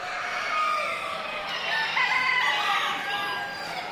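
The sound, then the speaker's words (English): Several roosters crow over one another amid a dense, steady chorus of clucking chickens at a poultry show, the Northeastern Poultry Congress in Western Massachusetts, with a busy crowd of birds filling the space throughout. “Now, a chicken show may not have the prestige of its canine cousin, but as you'll hear in this sound montage”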